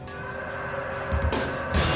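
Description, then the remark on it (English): Steady road traffic rumbles throughout, with engine drone and tyre hiss, a couple of louder low thumps and a brief swell as vehicles move past, while a man runs across the road holding up his hand to stop the traffic. No voices. “Now, Buchan puts his hand up to stop the traffic as he tears across a road.”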